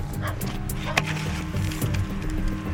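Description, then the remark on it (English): Kindling wood being split: one sharp, loud woody crack stands out among a few softer knocks and splintering snaps, over a steady low background hum with no talking. “Kindling.”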